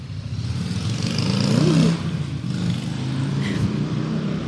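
A motorcycle engine roars past nearby, its pitch rising and falling as it passes, with steady traffic rumble continuing underneath and no talking.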